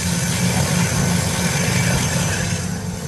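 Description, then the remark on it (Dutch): A large professional power drill, auction lot number 28, is switched on to check it still works. It runs steadily with a low, even motor hum and a constant buzzing drone, holding a level, moderately loud tone with no pauses or speech. “Ja, dit is eigenlijk gewoon een professionele, hele grote boormachine. Dat klinkt helemaal niet zo heel heftig.”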